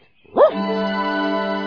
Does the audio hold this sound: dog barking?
yes